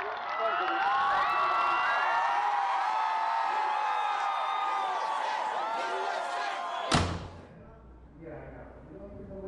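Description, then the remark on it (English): A large crowd at an appearance by former President Marshall in Springfield, Illinois, cheers and shouts continuously and loudly for several seconds, then a sharp bang cuts it off and only faint, scattered crowd noise remains. “At an appearance in Springfield, Illinois, crowds asked him to summon Lincoln.”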